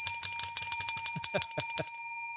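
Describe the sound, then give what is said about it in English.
A small bell rung rapidly and repeatedly for a correct answer, about a dozen quick bright dings in a row, then a short ringing tail as it fades. Clear, with no voices. “Boy, that bell is getting more fun.”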